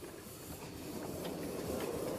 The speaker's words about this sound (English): the first control I want to look at is the regulator. So that's this lever here, and this allows steam to go from the boiler to the cylinders to operate the pistons to drive the engine. So if I open it, the engine will move. More steam is this way.